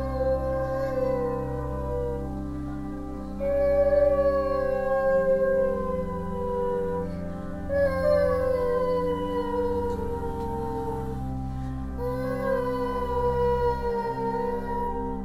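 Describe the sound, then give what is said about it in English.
A dog and a person howl together in long, wavering, overlapping wails that rise and fall in several drawn-out phrases, steady throughout, the human voice imitating the dog's howl. “listened to us howling together.”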